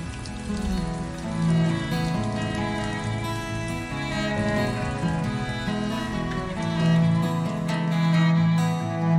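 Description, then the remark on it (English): Heavy rain pours steadily and without pause onto a dirt road, turning it to mud, a dense hiss that fills the whole stretch, with sustained musical tones running underneath it. No one speaks. “I looked back to see Kenneth Banya ducking into his concrete apartment out of the rain.”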